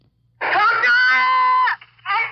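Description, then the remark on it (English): A five-year-old boy beside a bridge screams loudly for his parents, one long sustained wailing cry followed by a short pause and the start of another, over a faint low hum. “That's a five-year-old boy beside a bridge, screaming for his parents.”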